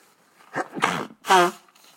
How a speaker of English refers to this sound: I'm going to sneeze right now. Excuse me.